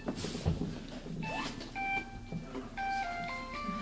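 phone ringing

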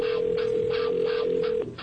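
telephone dialing and ringing

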